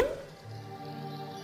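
A single short pop right at the start, like a cork pulled from a bottle, quickly giving way to a soft, sustained musical tone that continues underneath.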